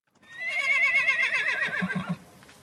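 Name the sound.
horse neighing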